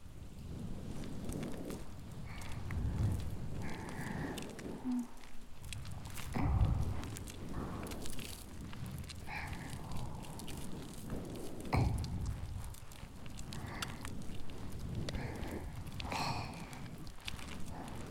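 Dense, continuous crackling and fizzing of foam bubbles rubbed over the ears, with soft scrubbing swishes and occasional louder rustles throughout; no voices.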